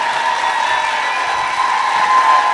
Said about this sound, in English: Hassan and Shaheen entered to a standing ovation and received applause throughout the morning.